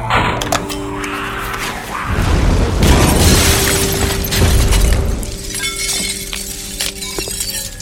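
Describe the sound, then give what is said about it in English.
A Mark 56 hand grenade explodes with a deep, rumbling boom and a burst of shattering, crackling debris that rolls on for a few seconds over a steady low hum, with no voices. “Mark 56 hand grenade.”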